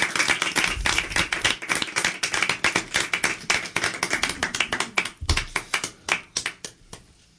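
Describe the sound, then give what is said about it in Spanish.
A small audience applauds with dense, overlapping claps that gradually thin out into fewer, sharper individual claps before fading away. “Bueno, un aplauso, ¿no?”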